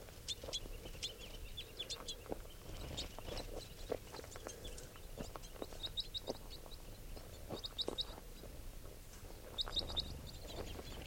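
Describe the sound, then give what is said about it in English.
A small flock of about ten crossbills, two of them red and the rest females and juveniles, calling with repeated short, sharp chirps in bursts over a steady low rumble of background noise; no one speaks. “There are probably about 10 crossbills here.”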